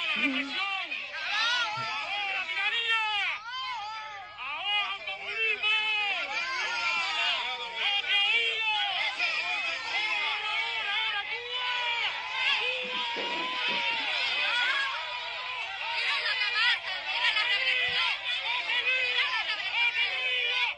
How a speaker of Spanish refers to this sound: oye a las personas hablando, dándole el apoyo al pueblo. Sí, la gente gritaban patria y vida y hubo mucho apoyo.